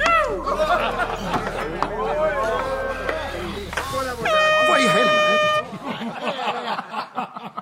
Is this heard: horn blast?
yes